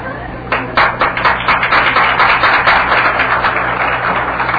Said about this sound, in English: The applause came from the men, ladies and gentlemen.